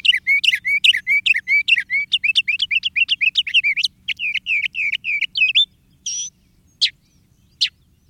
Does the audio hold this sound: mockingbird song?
yes